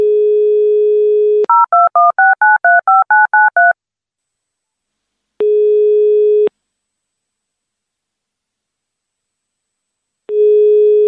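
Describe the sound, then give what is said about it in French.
A steady dial tone gives way to a rapid run of about ten touch-tone keypad beeps as the host of the radio show Titanic on Fréquence Banane dials a guest's telephone number, followed by long gaps broken by two ringback tones. “Je compose le numéro.”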